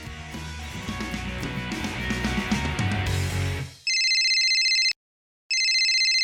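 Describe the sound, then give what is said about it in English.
A short stretch of music fades out, then a telephone rings loudly with a bright electronic trill: two rings separated by a brief silence, clear, as Jane calls Mike about plans for the weekend. “Jane is calling Mike to talk about plans for the weekend.”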